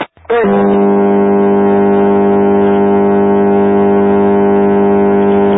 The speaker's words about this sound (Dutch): Dat was de stoomboot